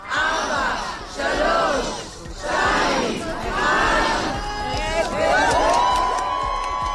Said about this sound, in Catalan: El rellotge de la plaça dels hostatges finalment s'ha detengut. I ho ha fet davant una multitud que ha fet el compte enrere.